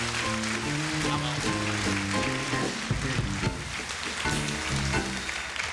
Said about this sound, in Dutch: Uitstekend geantwoord. En applaus.